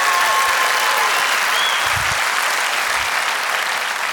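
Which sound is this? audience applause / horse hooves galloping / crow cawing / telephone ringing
audience applause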